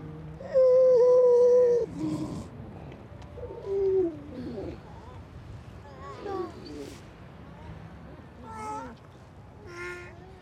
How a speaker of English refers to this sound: And listening to those quite disturbingly human, childlike voices of grey seal singing on the night, being occasionally illuminated by the passing beam from the Longstone.